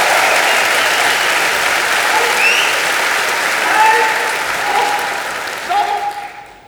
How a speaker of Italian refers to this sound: geben Sie mir noch einen riesigen Applaus.